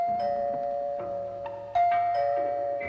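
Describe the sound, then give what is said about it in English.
A doorbell chimes through a short melodic sequence of several ringing tones, each note sustaining and overlapping the next, clear with no voices. “It was only an hour later, while she was sewing a dress in the living room, that the doorbell rang.”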